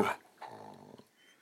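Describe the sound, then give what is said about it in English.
A female dog gives a short, sharp vocal burst on the command to speak, then after a brief pause lets out a drawn-out, tonal whining yawn that fades away. No one speaks. “You spoke and you yawned, that silly girl!”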